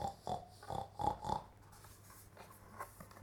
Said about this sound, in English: Peek-a-Boo, who are you? Oink, oink, oink. I'm a messy pig. What's the piggy do?